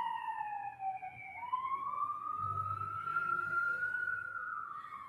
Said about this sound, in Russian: У меня тут тоже, видите, сирены. Сейчас, пусть проедет.